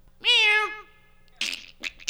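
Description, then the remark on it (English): A person gives one loud, drawn-out imitation of a cat's meow, followed by a few short, breathy noise bursts. “Meow. And bird and weird shit, fart sounds. Yeah, like that.”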